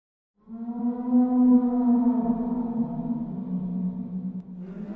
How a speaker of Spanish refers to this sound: Una vez más, el bramido como de ballena se hizo presente, seguido por los sonidos de clics más raros que he escuchado. Como una lengua golpeando dientes rápidamente sin patrón aparente.